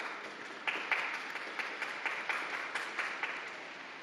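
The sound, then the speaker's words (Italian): A large crowd applauds for mothers on Mother's Day, in a dense, continuous wash of clapping, holding a steady level for the whole stretch with a few sharper claps popping out. No voices are heard. “Un applauso alle mamme.”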